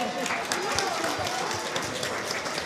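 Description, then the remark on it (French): An audience applauds steadily for a quiz contestant, a dense wash of many hands clapping at an even, fairly loud level throughout, with some indistinct voices mixed into the noise. “Vous pouvez applaudir”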